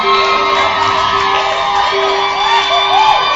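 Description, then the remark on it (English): A church audience cheers and shouts steadily for their pastor and his wife at a baby dedication, with whoops and rising yells over a dense wash of voices and a sustained high tone, loud and continuous throughout. “How many of you love your pastor here? Let me see.”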